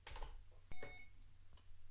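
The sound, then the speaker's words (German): A scanner device, switched back on, gives a single short clear electronic beep over a low steady hum with a few faint clicks around it, signalling it is ready for use. “So, dann piepst es nur einmal.”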